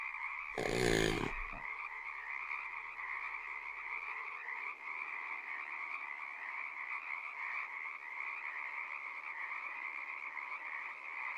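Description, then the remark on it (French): A dense, unbroken chorus of croaking frogs, with a lizard occasionally heard too, drones steadily throughout, with a short, loud burst of noise near the beginning and no talking. “Ouais, en fait, y a pas que des grenouilles, de temps en temps on entend aussi un lézard.”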